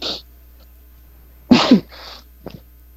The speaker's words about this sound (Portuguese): Peraí, cara, que eu tô espirrando, eu tô me afastando do microfone. Só um segundo.